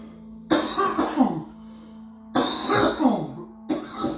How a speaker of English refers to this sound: I will if I can fucking stop coughing.